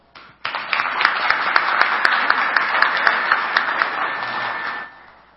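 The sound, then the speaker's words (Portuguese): An audience of an institution's members, board and businesspeople breaks into sustained applause for Mr. Álvaro, many hands clapping densely and steadily for several seconds before it quickly dies away. “E Por isso eu queria convidar todos vocês para uma forte salva de palmas ao senhor Álvaro.”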